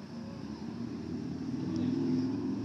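A teenager rides a motorcycle around the neighborhood blocks; the engine drones steadily, its low rumble growing slightly louder, with no other sounds standing out.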